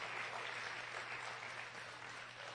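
A steady round of applause from a crowd at Good News Church during a Bold Venture event, for a woman who brought her 9-month-old; dense crackling clapping holding at an even level for a couple of seconds with no voices on top.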